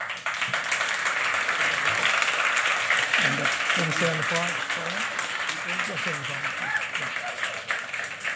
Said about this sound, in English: Okay, said the same applause, there's an applause, doesn't, no contest there.